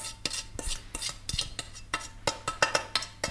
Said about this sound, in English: And now what we're going to do is we're going to spoon this wet mixture into our dry. Eggs and butter and oil. And then we're going to mix it.